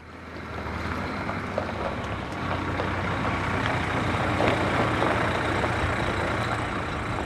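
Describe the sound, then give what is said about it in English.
A steady, heavy engine rumble from buses carrying students pulling up in a farmyard in Offaly, with a broad droning hiss that swells slightly midway and holds, and no voices. “He got there just as the buses with the students pulled up, sixth years about to submit their projects and fifth years looking for ideas for theirs.”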